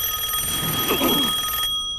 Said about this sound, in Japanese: 電話。